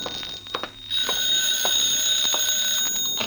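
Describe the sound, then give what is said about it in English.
A telephone in an office rings with a shrill, continuous electric bell that starts after a few brief clicks and keeps jangling steadily to the end, loud and with no voices. “Just as I got to the tambourine, the phone opened up in my office.”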